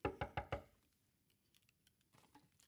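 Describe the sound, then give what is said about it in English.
Four quick, solid knocks rap on a door, followed by near silence with a few faint, scattered taps in the background. “Shall we knock?”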